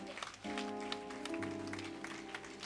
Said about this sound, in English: Give a clap offering to John Wesley.